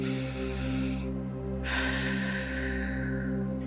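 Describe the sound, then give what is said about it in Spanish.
A long, airy breath drawn deeply in through the nose during a guided breathing exercise, a short pause, then a slower, softer breath out, steady over a continuous low humming drone. “Inhala profundamente por la nariz y exhala lentamente.”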